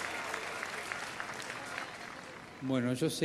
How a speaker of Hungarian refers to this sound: Aztán ti, fiatalok, akik afrikaiak leszármazottai vagytok, nektek is megvolt a találkozótok, és megelőztetek bennünket. Nekik is egy tapsot.